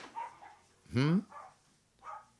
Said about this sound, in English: He's barking at me because this is... Y'all hang on. I'll be right back. I'm trying to see him.